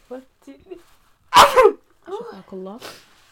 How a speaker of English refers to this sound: But I feel like if you sneeze multiple times, then I say shafakallah.